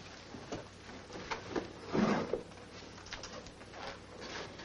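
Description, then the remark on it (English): A drawer holding socks slides open or shut during packing, with a brief, rough wooden scrape midway, surrounded by quieter rustling and handling noises. “Where are your socks? You'll need socks. In the drawers.”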